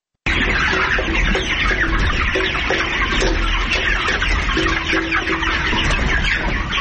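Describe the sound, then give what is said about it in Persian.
A dense, constant chorus of many chickens clucking and chattering at once at a poultry farm raising about 3,000 chickens in Tatamdara village, Parwan province, Afghanistan; steady and fairly loud throughout, with overlapping calls and no voices. “در کنار ساحل دریای دره قربان، مکان بزرگ 40 متره، حدود 3000 مرغ پرورش داده می شد که یکی از این فارم های مرغداری در روستای تتمدره ولایت پروان موقع داشت.”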